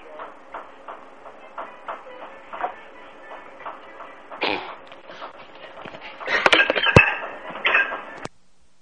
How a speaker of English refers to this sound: I heard a breaking dishes in the back room. Yeah, what's it? It's just some guy's pounding meat in the back or something.